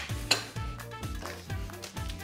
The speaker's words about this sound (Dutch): We gaan even de knoflook en de ui een beetje aan... bakken. Oké, heel goed inderdaad.